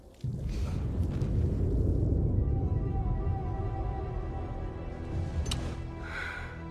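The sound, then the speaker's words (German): The reserve fuel tank of another Jupiter spacecraft explodes abruptly, then gives way to a loud, deep, sustained roaring rumble that slowly fades over several seconds, with no voices. “Die Explosion, die Penny gesehen hat, war definitiv der Reservetank einer anderen Jupiter.”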